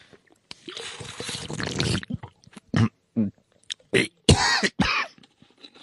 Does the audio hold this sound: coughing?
yes